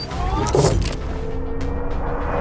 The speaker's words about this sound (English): The car leaves.